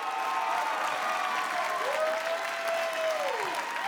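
A studio audience applauds steadily for Phil McGraw (Dr. Phil), a dense wash of clapping that stays loud and even throughout, with a faint sustained tone gliding underneath.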